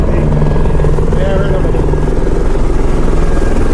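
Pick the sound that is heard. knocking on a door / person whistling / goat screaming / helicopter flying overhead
helicopter flying overhead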